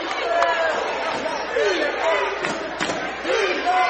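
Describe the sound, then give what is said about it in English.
A basketball crowd in Pruitt Hall roars loudly and continuously during the first half after a three-pointer put the Tigers ahead 23-21, a dense wash of cheering and shouting voices with rising yells on top, and a few sharp bangs cutting through. “Pruitt Hall getting loud on it.”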